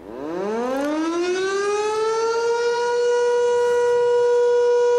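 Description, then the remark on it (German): A civil defense siren in Switzerland, sounding in the Swiss federal siren test, winds up from a low growl to a steady, loud wail with rich harmonics, holding its pitch continuously with no voices present. “Ja, das ist der eidgenössische Sirenentest.”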